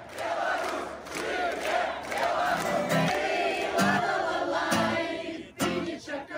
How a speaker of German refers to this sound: Die meisten hier wissen davon und brüllen trotzdem die Parolen der Opposition, zum Beispiel »Es lebe Belarus«.